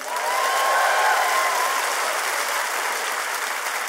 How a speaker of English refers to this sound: Ladies and gentlemen, Oakland's master storyteller, Mr. Don Reed. Everyone, clap for you, clap for you.